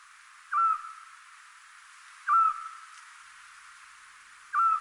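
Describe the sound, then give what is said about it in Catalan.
A Eurasian scops owl, a very small owl, gives three short, clear whistled notes spaced about two seconds apart, each a single soft beep over a quiet, hissy night background with no other sounds. “Doncs efectivament, això que estem escoltant és un xot, que és el meu mussol preferit.”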